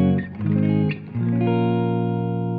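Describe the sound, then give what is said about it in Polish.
An electric guitar played through an amp: a few quick strummed chords, then one chord left to ring out, with a slightly gritty, driven edge; harder strumming overdrives the amp, lighter playing stays clean. It's loud, with no voices. “Jak mocniej uderzymy, to przesterowuje, a jak lekko, to mamy najsłodszy clean w mieście.”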